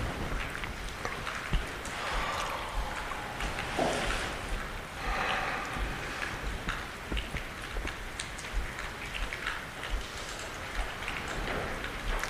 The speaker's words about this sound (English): I came back to the sound of the rain, and I kind of like the sound this morning. It's friendly in a way. It reminds me that there is a world out there that's doing its own thing.